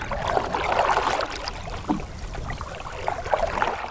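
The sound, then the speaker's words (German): Gentle water laps and splashes steadily against the bow of a dugout canoe gliding calmly along in almost windless conditions, the few small waves breaking softly, a soft continuous wash with a few brighter ripples, no voices. “Ganz sanft brechen sich die wenigen Wellen am Bug des urtümlichen Gefährts.”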